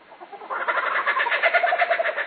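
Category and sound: bird, distinctive bird call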